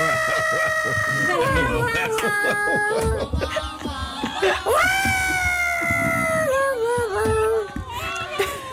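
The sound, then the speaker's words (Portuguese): A person imitates a dog barking with short, repeated yelps, mixed with loud, sustained high-pitched vocal tones and other voices throughout. “Sim, eu vou fazer o au, au, au, como eles estão a fazer, não é?”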